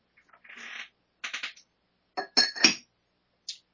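A glass of water clinks and rattles in several quick bursts, with bright ringing taps and a short scrape, then one last light clink after a pause; no one speaks.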